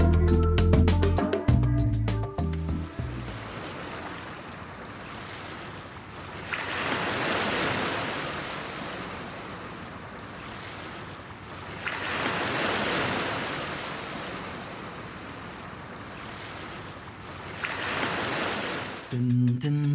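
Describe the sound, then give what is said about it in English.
Ocean waves roll in and wash out in slow, rushing surges, about three swells spaced several seconds apart, steady and moderately loud, with brief snatches of music at the start and end. “Down by the ocean we go.”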